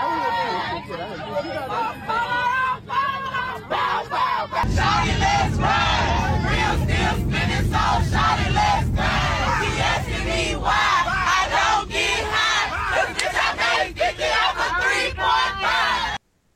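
A crowd of passengers cheers, whoops and shouts together over steady cabin engine noise, rising into louder rowdy chanting after a few seconds and staying boisterous until it cuts off.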